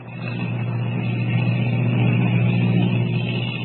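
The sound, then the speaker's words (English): A steady, droning engine hum with a deep, throbbing low rumble from a giant airplane in flight, holding at a constant loud level throughout with no voices. “As the giant ship hurtles through the sky, Kent wonders what will be waiting for them.”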